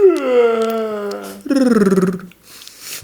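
A dog gives a long, drawn-out yawn that ends in a trilled, rolling rattle like a rolled R, voiced and fairly loud, followed by a brief breathy tail.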